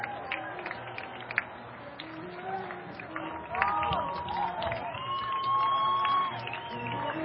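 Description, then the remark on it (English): A large ballpark crowd roars and cheers for a solo home run hit deep to left by Reading's Andres Alburja, putting Reading up 4-1. A sustained wash of many voices with scattered whoops and shouts swells louder midway and stays loud to the end. “Listen to that crowd.”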